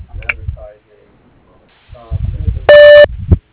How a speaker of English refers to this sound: Thank you for calling Taylor Pump Repair. We are not available to come to the telephone right now, but if you will leave your name and number after the beep, we will return your call as soon as possible.